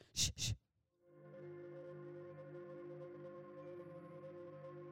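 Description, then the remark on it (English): Two quick sharp knocks, then a calm, layered bell-like tone swells in and rings steadily at an even level, like meditation handbells humming together. No one speaks. “Did you guys ever do like the handbells in music class when you're in school?”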